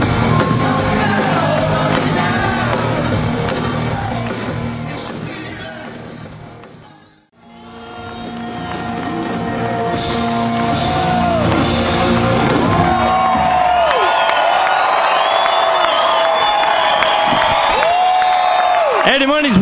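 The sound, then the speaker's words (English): A large concert crowd cheers and yells loudly and continuously as the singer and band come on stage, with scattered whoops and shouts rising above the roar. The sound briefly dips to near silence midway, then swells back to full volume. “Slapping hands, thanking everybody, and the crowd's still going crazy.”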